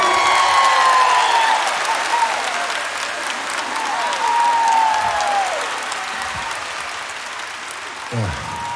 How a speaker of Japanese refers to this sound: 改めて紹介しましょう。私にとってベースボーカルは後にも先にも彼しかいません。盛大な拍手を。